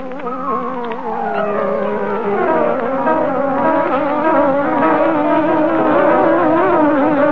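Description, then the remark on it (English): Buzzing theme music of the mystery program The Green Hornet, imitating a hornet: a loud, continuous droning tone that swoops and wavers up and down in pitch, layered with rich harmonics, with no talking over it. “What favorite mystery program buzzes? It comes on the air like this.”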